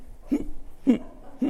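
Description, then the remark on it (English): A person vocally imitates a dog about to vomit: three short, throaty heaving gulps, evenly spaced about half a second apart, low-pitched and moderately loud with no talking. “If you have a dog in your house and you start hearing this noise”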